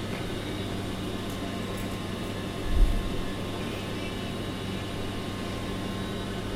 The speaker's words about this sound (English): There's a couple of staff on, but it's a bit dull, really, at five. Just after five in the morning in Ipswich train station.